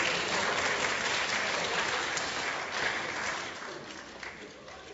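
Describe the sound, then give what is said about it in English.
Sustained applause from an audience, a dense wash of clapping that stays steady for several seconds before gradually tapering off toward the end. “I presume that laughter is applause.”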